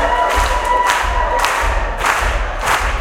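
audience clapping and cheering

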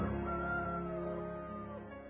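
junglefowl crowing

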